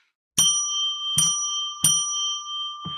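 A small bright bell is struck three times in steady succession, each clear metallic ring overlapping and sustaining into the next; fairly loud, with no talking, and another strike just beginning at the end.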